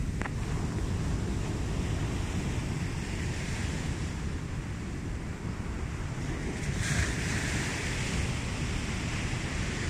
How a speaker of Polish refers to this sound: Posłuchajcie teraz ze mną szumu fal.